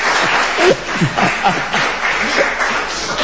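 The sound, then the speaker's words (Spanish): An audience applauds in a steady, dense wash of clapping that holds for about three seconds, with faint voices and a little laughter mixed underneath. “No aplaudan que no, a mí me leyó acá 500 pesos.”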